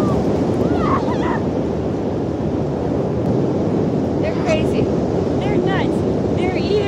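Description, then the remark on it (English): Ocean waves wash onto a beach at sunrise in a steady, loud roar, recorded on a phone propped up on the beach, with gusting wind buffeting the microphone and faint voices calling out now and then as people run into the water. “So it's just like propped up on the beach, and they're running into water.”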